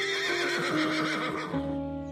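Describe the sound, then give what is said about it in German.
A unicorn's full, resonant, horse-like whinny rises and wavers in a long tremolo, then drops to a lower, steadier tone as it fades; loud and alone, with no talking. “Doch ist es nicht das Wiehern eines Miniaturfigürchens, sondern ein wunderschöner, voller Klang, der die umliegenden Bäume vibrieren lässt.”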